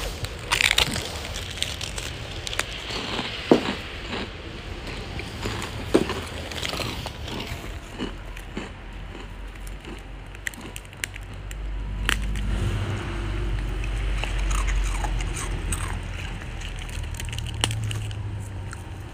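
Crisp crunching of a Japanese rice cracker (senbei) being bitten and chewed, sharp cracks in irregular bursts, followed by steadier chewing over a low rumbling background; no one speaks.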